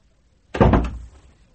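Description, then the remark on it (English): A single door closes with a firm thud, a sudden loud impact followed by a short fading rumble, with silence before and after and no one speaking. “If you've got something to say, then have the decency to say it before you walk out that door.”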